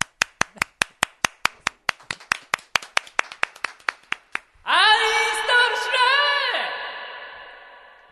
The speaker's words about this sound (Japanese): じゃあ拍手してよ、みんな。 うん。 迎えてよ、歓迎してよ。